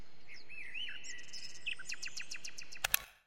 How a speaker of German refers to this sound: Und eine Nachtigall gibt ein Privatkonzert. Nur für mich.